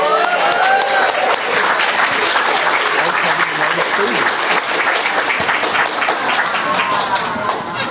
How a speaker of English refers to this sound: let's hear a cheer for those upcoming newlyweds